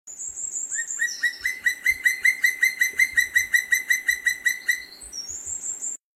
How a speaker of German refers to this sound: Genau, das ist so eine Art Kontaktaufnahme, Revier, Abgrenzung, hier ist mein Gebiet, so ein Signal ist das. Und auch dieser Ruf ist sehr typisch, sehr weit zu hören, auch sehr laut. und eigentlich nicht mit einem anderen Vogel zu verwechseln.